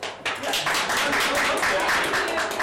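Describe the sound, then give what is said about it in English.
An audience applauds steadily, many hands clapping in a dense, continuous patter that starts abruptly and holds at an even, fairly loud level throughout. “Clapping.”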